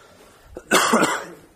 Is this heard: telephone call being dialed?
no